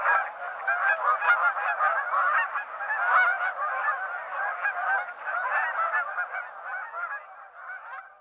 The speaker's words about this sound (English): Take, for example, our first species. The clamorous sound of Canada geese is a vocalization often likened to the barking of hounds.